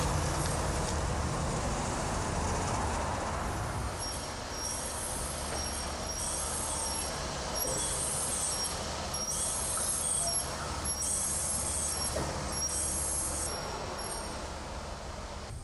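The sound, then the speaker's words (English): A Cutlass Supreme car drives into an underground parking garage, its engine and tire noise a steady, enclosed rumble throughout, with faint high-pitched squeals flickering above it. “Drive up here and make a ride into the underground parking garage.”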